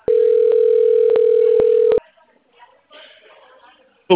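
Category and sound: signal or alarm, telephone dial tone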